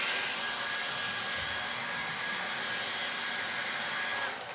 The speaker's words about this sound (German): Ich habe euch für euch mal so ein Windgerät mitgebracht und ihr werdet gleich sehen, die Auswirkungen werdet ihr sehen, aber die Luft an sich, die das bewegt, nämlich nicht.